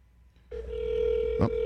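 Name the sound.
telephone call ringing tone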